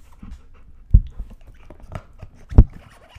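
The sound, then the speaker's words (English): A dog, Canvas, pants steadily while gnawing and chewing on her toy, with two sharp, loud bites or clunks standing out above the soft, rhythmic breathing and wet mouthing sounds. “Just chewing on her toy.”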